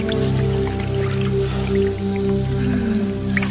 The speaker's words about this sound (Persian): دستای خونیش رو میشوره